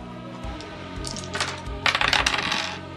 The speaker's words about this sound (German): Würfelt bitte auf Initiative. Wie geht das denn? Haha, jetzt kommen wir zur Initiative. Was ihr macht, ist 2d10 würfeln.